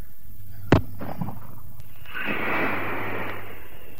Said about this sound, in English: Now, let's fire this flare.